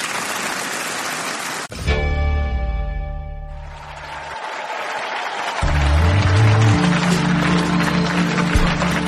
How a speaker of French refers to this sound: Un discours qui se termine sous les applaudissements.